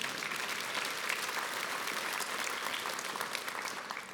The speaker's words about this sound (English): You can clap, it is good.